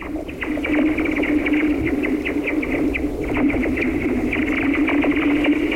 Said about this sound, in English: I captured this sound as the ice was melting one morning on Two Sisters Lake in Oneida County. The snow-free ice was still covering most of the lake, with pockets of open water breaking through